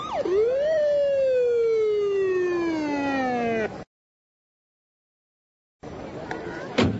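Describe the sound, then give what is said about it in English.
A loud police siren from an arriving police car wails for about four seconds, its pitch sliding slowly downward before cutting off abruptly. After a pause of silence, a short burst of noisy traffic-like rumble follows. “The police are arriving in a police car.”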